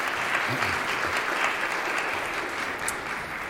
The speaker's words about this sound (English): Would you join me in giving a round of applause and welcoming